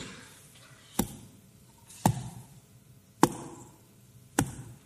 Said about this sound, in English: As they dropped their stones, you heard the thuds of the stones.